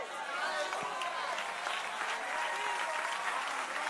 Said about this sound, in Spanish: No, pero si ese es el aplauso para el que saca vida del polvo.